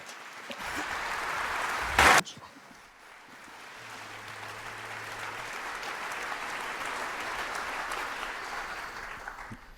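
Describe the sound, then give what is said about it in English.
Sustained applause from a large audience for the speakers, a dense steady wash of clapping with a sharp loud burst near the start, then swelling gently and continuing without any voices. “I kindly ask all of you here in so large numbers to kindly applaud for our speakers.”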